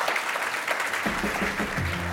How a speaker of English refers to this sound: Let's give a round of applause to getting through the gauntlet here.